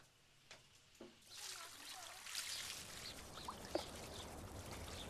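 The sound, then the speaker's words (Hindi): Water is poured for someone washing out stains, pouring and splashing steadily for several seconds after a couple of soft knocks, a broad rushing wash with small drips and clatters, fairly quiet. “मैं ठीक से पानी डाल रही हूँ, तुम ठीक से धोना ताकि धब्बे ना रह जाए।”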